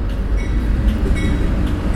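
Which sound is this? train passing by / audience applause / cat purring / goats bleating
train passing by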